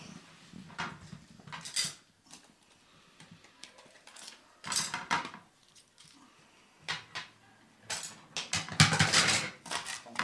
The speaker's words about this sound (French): Alors ensuite, on va couper notre endive.